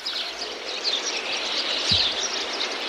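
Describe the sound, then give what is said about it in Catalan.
A busy chorus of sparrows, pigeons and parakeets calls among the trees and palms of a park on the way to its main square. Steady, overlapping high chirps and twitters continue throughout, moderately loud, over a faint low background rumble, with no talking. “Els arbres i les palmeres del voltant ens acolliran i abraçaran en el nostre camí, i els pardals, coloms i cotorres avisaran de la nostra arribada.”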